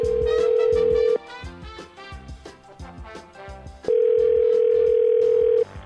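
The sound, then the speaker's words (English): A loud, steady telephone dial tone sounds in two long bursts separated by a pause as a prank phone call is placed, with rhythmic background music playing underneath throughout. “occasionally collects a bunch of clips of a random celebrity, a character, and places a prank phone call.”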